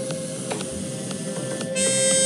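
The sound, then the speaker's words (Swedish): A steady electronic beeping tone from a Love Tutor device, played to reduce stress, drones over a hissy hum, with soft clicks ticking at regular intervals; near the end a shriller, higher tone joins in and the sound grows louder. “Stäng av den dumma pipan.”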